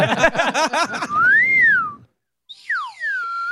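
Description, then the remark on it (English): A slide whistle rises and then sinks in a smooth falling glide, followed after a short pause by a second, steeper downward swoop, loud, after a burst of bubbly vocal noise. “It would be fun if while you were falling, you did the slide whistle.”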